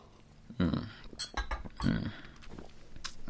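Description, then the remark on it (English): A ceramic cup of cold tea clinks a few times while two short, breathy slurping sips are taken from it, with a soft rustle in between and no talking. “Let me just have a sip.”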